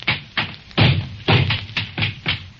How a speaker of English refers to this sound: I'm going to take the same gun and pound it on the floor. And now I'm going to hammer it and knock it. It's facing me, you notice.